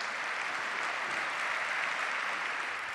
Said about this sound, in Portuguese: Vocês trabalharam, exclamou Francisco, recebendo um imediato aplauso.